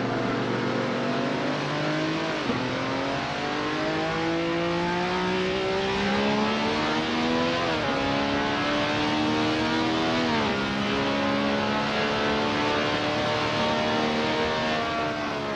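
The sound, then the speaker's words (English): A loud engine of a former world championship racing car, driven on a run in Bahrain, screams continuously, its pitch climbing steadily, then dropping sharply at each gear change before rising again, with no voices. “I did the run in the car in Bahrain. It was my last world championship car, and I loved it.”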